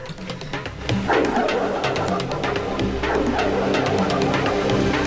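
Several dogs bark repeatedly in a rapid, overlapping chorus, fairly loud, over a steady rumbling background. The barking swells after the first second and keeps going without pause.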